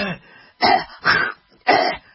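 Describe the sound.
A voice imitates coughing and throat clearing heard in a medical office hallway: three short, harsh bursts about half a second apart, fairly loud, with a softer rasp before them and no other sounds.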